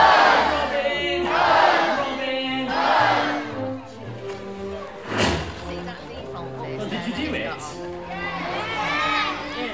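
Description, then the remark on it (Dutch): An audience at a Robin Hood show shouts "Hood" together in reply to "Robin", in several loud bursts at the start and again at the end, with a sharp thump in between and tones underneath. “Ja, dus hij roept dan Robin en dan roept iedereen Hood.”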